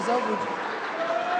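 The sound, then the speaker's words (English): A large crowd boos and laughs in a loud, sustained roar of overlapping voices, with a few drawn-out tones rising above the steady wash of noise for the whole stretch. The audience is reacting to a speaker's claim that Iran has no homosexuals. “You can hear, you know, there's booing and laughter.”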